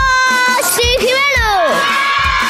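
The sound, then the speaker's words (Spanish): A group of children at a party sings and shouts together in the background of a caller's line to the radio station Cadena 100. Their high-pitched voices are loud and continuous, with rising and falling sustained notes blending into an excited crowd-like chorus. “Pero, además es que no paráis de cantar, que se os escucha de fondo,”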